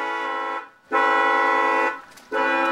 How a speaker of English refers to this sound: There's six automotive horns. Each welded to a dolly with a car battery and a relay switch, and well, you take a listen.